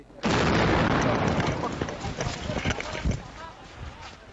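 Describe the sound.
A sudden loud explosion, the second blast in Jalalabad city, set off at a shrine while citizens were taking the wounded to hospital, bursts in and stays as a roaring, crackling wash of noise that slowly thins out, with agitated voices and commotion mixed in.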